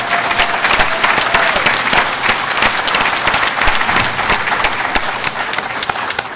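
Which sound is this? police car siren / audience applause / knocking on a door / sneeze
audience applause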